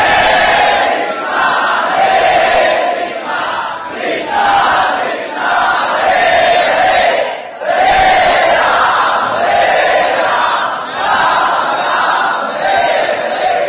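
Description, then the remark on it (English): A crowd of voices chants together loudly in repeating melodic phrases, performing Nam Sankirtan (chanting Hare Krishna, Hare Rama), with a steady rhythmic pulse of hand clapping underneath, pausing briefly midway before the group chant resumes. “They all performed Nam Sankirtan, clapping their hands, chanting, Hare Krishna, Hare Krishna, Krishna Krishna, Hare Hare, Hare Rama, Hare Rama, Rama Rama, Hare”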